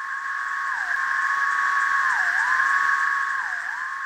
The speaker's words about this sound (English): Male periodical cicadas produce songs using a pair of timbals or ridged membranes on the first abdominal segment, which is hollow and resonant. They collectively pause even, which conveys a sort of mechanical sound.